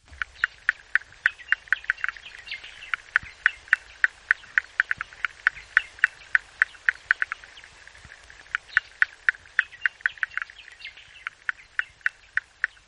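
A male Tasmanian froglet calls away from the water during the November to February breeding season, with a steady series of short, sharp chirping clicks, roughly two or three per second, clear against a faint background with no voices.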